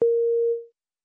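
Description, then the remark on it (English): A single steady, clear electronic beep holds one pure tone for about half a second before fading out, followed by silence; it signals a language learner to repeat a sentence aloud. No voices. “Listen and repeat the sentences after the beep.”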